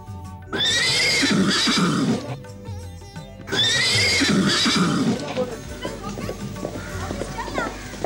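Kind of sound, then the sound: animal, horse neighing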